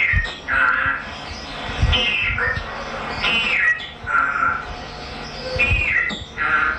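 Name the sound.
parrot squawking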